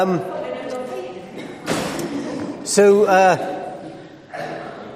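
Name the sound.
door banging open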